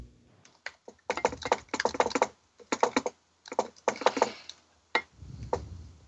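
Rapid clattering keystrokes on a computer keyboard, a mix of typing and Morse code, come in bursts with short pauses between them, fairly loud, ending with a soft low thump; the keyboard sits in an awkward position while the typist eats soup.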